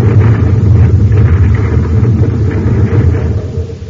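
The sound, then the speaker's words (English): A rockslide set off by a quake crashes down from the top of a mountain: a loud, continuous, deep rumble with grinding crackle on top, steady for the whole few seconds with no voices. “The rock's giving way. Oh, the rocket is another quake. We've got to get away from here fast. The whole top of the mountain's coming down on us.”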